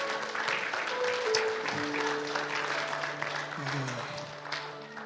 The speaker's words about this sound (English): Thank you for the worship this morning. Give the worship team a clap.